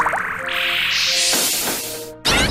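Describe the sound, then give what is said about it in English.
A synthetic, watery bubbling effect swells and fizzes upward over a couple of seconds, ending in a sudden bright burst of hiss, like an arcade-style attack sound with no voices; a video game Bubble Burst move used by an opposing water and magic type creature. “Foe Squirfa used Bubble Burst.”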